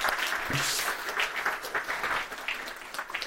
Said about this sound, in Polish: Myślę, że jeżeli obudzimy nasze ręce teraz i sami sobie będziemy bili brawo, to będzie to chyba dobry moment i też taka mała rekreacja na początek.